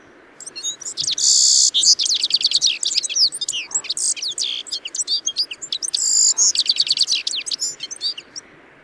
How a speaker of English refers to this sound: Its colors are more subtle, being mostly grayish with soft yellow accents. Here is the lovely song of the citril finch singing in the foothills of the German Alps.